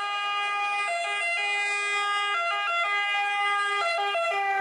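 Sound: ambulance siren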